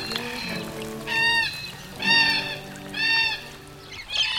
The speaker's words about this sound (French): Puis il a plu. Les oiseaux sont revenus.